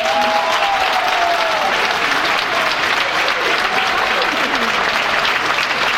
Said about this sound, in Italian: Vi vorrei verificare il gradimento che oggi avete avuto con il vostro applauso.